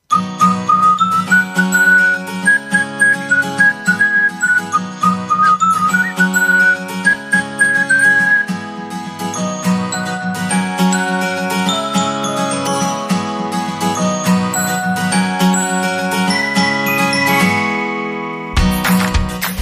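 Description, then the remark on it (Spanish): A bright whistled jingle melody carries over a bouncy instrumental backing, the whistle clear and upfront in the first half before the music continues and then cuts off abruptly near the end. “Ay, ese silbidito que ya marca el pitido de salida para el fin de semana, que lo tenemos ahí a vuelta de la esquina ya en este viernes.”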